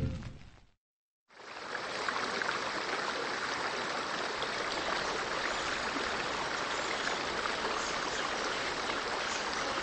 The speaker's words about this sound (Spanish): Ah, compañeros de aventura, este río pantanoso conduce hacia mi mundo perdido. Con este par de canoas nos adentraremos de lleno en la aventura.